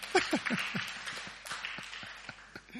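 An audience claps their hands together in a brisk burst of applause, many sharp overlapping claps forming a dense patter that eases off slightly over a few seconds, with no talking.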